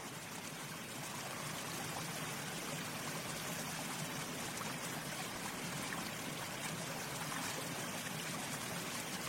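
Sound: water running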